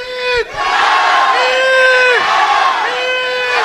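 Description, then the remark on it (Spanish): A crowd of Peru supporters at a Peru versus Denmark football match loudly chants a battle cry for Peru in unison, voices rising and holding long sustained notes across two or three repeated phrases, with a brief dip at the start. “¿Cuál es el grito de guerra de la canción o lo que cantan habitualmente animando a Perú?”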